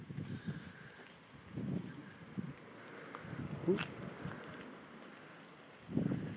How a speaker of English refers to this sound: You can hear the rain in the trees and he's still nudging the bottle.